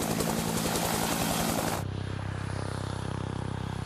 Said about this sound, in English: Often the first thing you hear from a helicopter is the sound of the wake from the main rotor hitting the wake from the tail rotor.